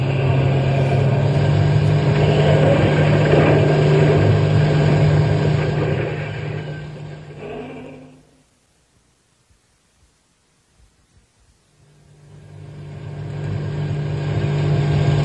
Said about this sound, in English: Step on the gas. You'll get out of the park and then we can think about who to do next. Go faster.